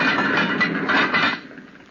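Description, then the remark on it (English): The heavy metal door of a wood-burning furnace on the side of Mount Greylock, with its fire going, scrapes and clanks shut, a rattling, clattering metallic noise that holds for about a second and then trails off into quiet. “Stand back, Ethan, while I stow in this log. We don't need it. Fire's going good enough now. All right, then. Shut the door.”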